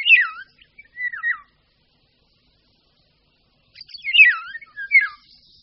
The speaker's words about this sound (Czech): I hned po příletu se žluvy začnou ozývat. Jejich zpěv byl kdysi přepisován slovy kdyby ho bylo, k čemuž prý lesníci připojovali to by se pilo.